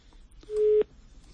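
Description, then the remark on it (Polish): A single short telephone busy-tone beep after a caller hung up, a steady mid-pitched electronic tone lasting about a third of a second, standing clearly above faint line noise with no one talking. “Rozłączyli się.”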